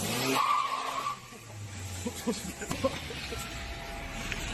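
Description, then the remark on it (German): Car tires skid with a loud, sustained squeal for about a second, followed by engine rumble and scattered clunks as the vehicle moves. “Alter, ich hasse Leute, die nicht Auto fahren können.”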